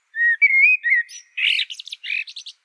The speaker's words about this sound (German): Regelrecht kreativ. Manchmal bauen sie auch zwitschernde Elemente ein oder auch mal ein Handy klingeln. Trotzdem kann man ihre Stimme super gut wiedererkennen. Jedes Amselmännchen singt dabei ein eigenes Lied, aber nie zweimal hintereinander dasselbe